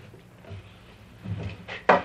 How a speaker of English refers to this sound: You know what? I must really be sick because I can't even open this door.